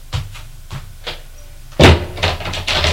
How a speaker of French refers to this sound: Elle a fermé la porte.